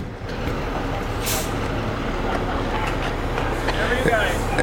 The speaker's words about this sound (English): I'm outside of the American Glory Barbecue, and the bus for John Davis for president has just arrived. His crew is getting off.